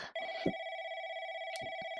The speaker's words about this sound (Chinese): 哎，有人打电话来了，你快接吧。